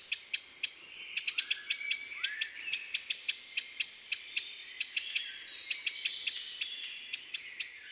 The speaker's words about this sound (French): Parmi les cris pouvant prêter à confusion, voici d'abord ceux du rouge-gorge et du troglodyte. Les tic-tics du rouge-gorge sont légers, délicats et assez peu sonores. Ceux du troglodyte sont plus graves, plus durs, puissants et vigoureux.